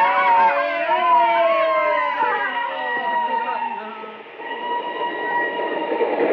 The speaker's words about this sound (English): The train was full of fellas, and the train raced on over the flatlands. The telegraph poles were passing, passing. The train went on and on.